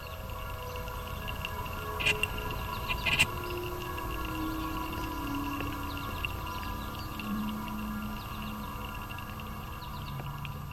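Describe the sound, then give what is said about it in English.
Birds sing softly outdoors among blossoming spring woods, scattered faint chirps and calls over a steady, quiet ambient hum, with a couple of brighter notes early on and no one talking. “as you can hear, the birds are out and about at Wave Farm”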